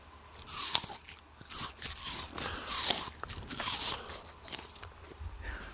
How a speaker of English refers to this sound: Do you want to have the listeners at home hear what a crunchy apple sounds like? Get really close to the microphone and chomp that apple.